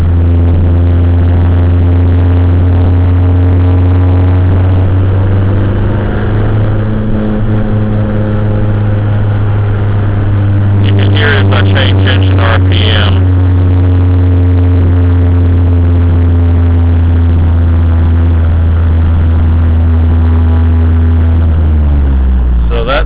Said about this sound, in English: I just mashed the clutch in, and you notice that the noise almost completely goes away, and the engine's idling smoothly. So that's what a bad motor mount sounds like.